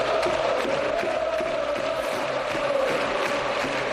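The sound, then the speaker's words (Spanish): A large stadium crowd at the Wanda Metropolitano chants in support of Fernando Torres as he comes on as a substitute for Antoine Griezmann, a loud, steady roar of many voices holding a sustained, droning tone for the full four seconds, with no single voice standing out. “Ayer en el Wanda Metropolitano se escuchaba esto en la grada.”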